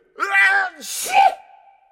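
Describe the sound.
A single sneeze: a rising, voiced intake builds for half a second, then bursts into a loud, hissing explosion that trails off into a short, tapering tone.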